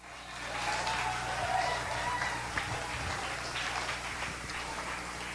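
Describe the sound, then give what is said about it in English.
A church audience gives a clap offering, clapping in a dense, steady burst that holds at an even loudness for several seconds, the sharp hand claps blurring into a continuous wash with a low hum beneath. “Can I see, can I hear a better clap offering than that?”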